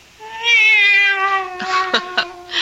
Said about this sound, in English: Oh, no, no. It's the cat. She's back.